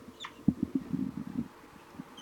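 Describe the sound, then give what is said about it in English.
Adult birds call quietly, giving flight, toop and alarm calls: one brief higher note followed by a rapid series of short, low, hollow toop-like calls, then a couple of scattered notes, with no talking. “The birds have calmed down, and the juveniles have been giving banging calls, and the adults are now giving both flight, toop, and alarm calls.”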